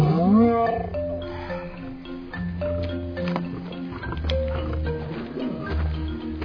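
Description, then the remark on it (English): A lion lets out a loud roar that swells upward at the start, followed by sustained deep rumbling tones that continue throughout with no talking. “Some lion you bought.”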